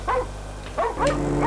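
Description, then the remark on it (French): A dog barks in a courtyard in a quick series of about four sharp, yelping barks over a steady low background hum. “Dans la cour, le chien continua à aboyer.”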